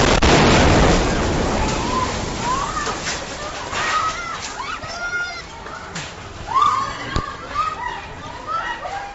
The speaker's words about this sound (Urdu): ایک چینی سیاح مندر کے قریب شاپنگ سینٹر میں فلم بندی کر رہے تھے جب دھماکہ ہوا. سوتی جھلک میں سنا جا سکتا ہے کہ کس طرح وہاں افراتفری پھیل گئی اور چیخ و پکار شروع ہو گئی.